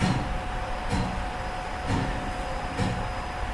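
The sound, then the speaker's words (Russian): An old mechanical tower clock in the attic of the Winter Palace at the Hermitage ticks slowly and evenly, about once a second. Each tick is a dull clunk over a steady low mechanical hum, with no one speaking. The clock is wound at least three times a week. “Вот если мы остановимся минутку, мы услышим, как бьется сердце Эрмитажа.”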